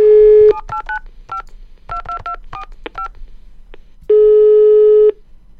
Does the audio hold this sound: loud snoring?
no